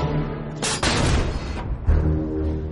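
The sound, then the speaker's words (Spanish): A US 105 mm howitzer artillery piece fires with a sharp, heavy blast, followed by a long rolling rumble and then a second, lower thud. The shot is loud, and no voices are heard. “La artillería estadounidense responde disparando desde una de sus piezas de artillería.”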